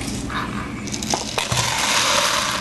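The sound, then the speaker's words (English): A robot named Kiri pours dry macaroni during a teaching experiment, making a steady, dense rattling hiss with a few sharper clicks and clatters, growing fuller and louder toward the end. No one speaks. “teaches a robot named Kiri to pour macaroni.”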